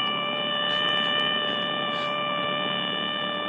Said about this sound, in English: I'm told that's a stall warning on a Cessna Skyhawk. Well, that is what a stall warning siren sounds like on a Cessna.